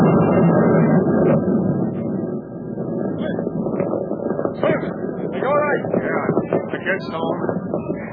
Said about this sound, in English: What's that? The destroyer. Depth bomb. She's trying to get the sub.